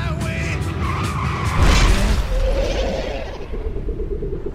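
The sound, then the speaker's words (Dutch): Tires squeal in a long, wavering screech as a car driving at 100 kilometres per hour in the dark hills skids, then a heavy crunching impact hits with a low rumble before the noise slowly fades out. “Dat is echt een harde klap.”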